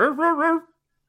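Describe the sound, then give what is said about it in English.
A person gives one short vocal imitation of a dog barking in a 'Casio dog' voice: a voiced, wavering yelp under a second long with a slight double pulse, followed by silence. “Do it in Casio dog voice or nothing.”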